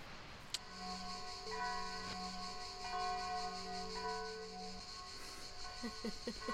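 Church bells ring steadily, their overlapping tones sustained and humming, with a few fresh strikes layered over the lingering resonance and no one speaking.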